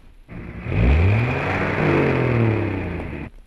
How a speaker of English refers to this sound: Oh, great. We just missed another bus